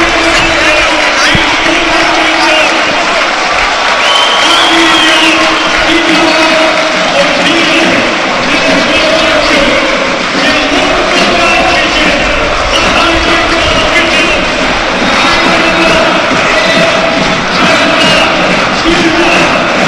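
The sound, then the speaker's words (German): A large stadium crowd of about 16,000 at the Alm roars and cheers after a goal puts Arminia 2:0 up in the 70th minute, in a dense, continuous wall of sound, with chanting voices and whistles rising through the din for the whole stretch. “Und wir überlassen euch mal eben hier dem Jubel auf der Alm.”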